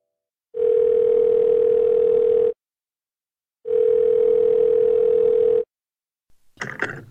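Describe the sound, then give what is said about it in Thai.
Two long, steady telephone ringback tones while calling Thai Nakharin Hospital, each about two seconds with a pause between them, clear; a voice briefly begins speaking right at the end as the call connects. “ลองโทรศัพท์ไปเช็คดูสิว่านิมิตนั้นจะจริงไหม”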